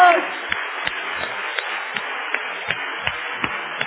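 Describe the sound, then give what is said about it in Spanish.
A Spanish-speaking audience applauds Jesus in worship, clapping in steady unison, about three sharp claps per second, over a continuous wash of crowd noise and cheering. “A ti un aplauso, aleluya.”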